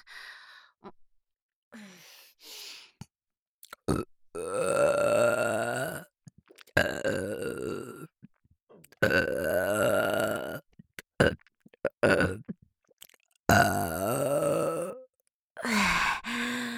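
A run of long, loud, drawn-out burps delivered right at the listener's ear, one after another with brief pauses between, several deep croaking belches in a row with no talking.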